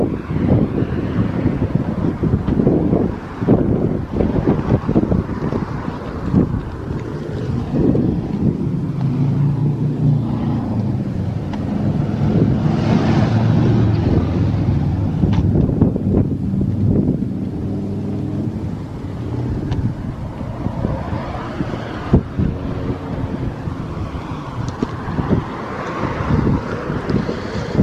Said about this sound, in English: Rain is definitely coming. It's cloudy overhead. Wind is blowing. Trees are shaking.